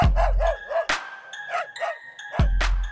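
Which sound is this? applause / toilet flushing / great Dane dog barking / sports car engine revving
great Dane dog barking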